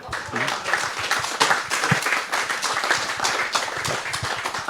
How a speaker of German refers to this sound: Also ein Applaus dafür für die Leute, die wir alle auf dem Weg bis hier verbrannt haben.